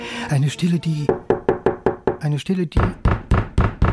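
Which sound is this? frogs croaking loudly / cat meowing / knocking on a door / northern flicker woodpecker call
knocking on a door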